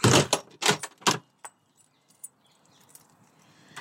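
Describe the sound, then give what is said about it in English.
A front door being opened as a person leaves the house: a few loud rattling, jangling bursts, then a couple of sharp clicks of the latch, fading into quiet ambience. “So this is me putting my shoes on and getting out of the door”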